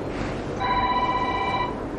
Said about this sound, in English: that's not my phone.